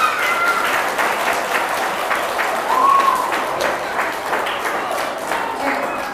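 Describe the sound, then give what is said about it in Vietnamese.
Loud, sustained applause from a group of children before hearing two fables, a dense steady patter of many hands clapping throughout, with a few excited young voices calling out over it. “Cho một chàng vỗ tay thật lớn nào.”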